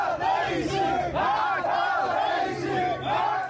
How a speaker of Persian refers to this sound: استان چهارمحال و بختیاری اما همچنان کانون اصلی اعتراض هاست، جایی که مردم چشم در چشم ماموران فریاد می زدن.